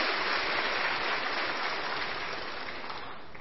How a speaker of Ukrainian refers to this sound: Ці оплески для вас.